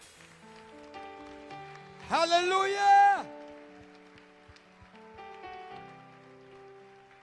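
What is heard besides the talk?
audience applauding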